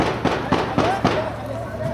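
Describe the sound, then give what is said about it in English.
Four sharp rifle shots of celebratory gunfire crack out in a quick, evenly spaced burst, fairly loud, over a steady low background rumble with faint voices, fired by a group of men up a street in Iraq. “That would be celebratory gunfire, although it does come in between the sound of helicopter gunships and airstrikes.”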